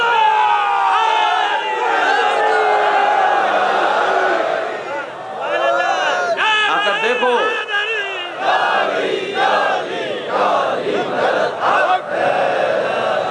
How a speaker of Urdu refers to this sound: کاش تمہیں خدا یہ سعادت دے دیتا کہ تم ایک منٹ کے لیے یہاں پر آ جاتے اور جو کچھ تم نے بغض کا اظہار کیا اس کے مقابلے میں ان چاہنے والوں کی نعرہ حیدری کی آواز کو سن لیتے.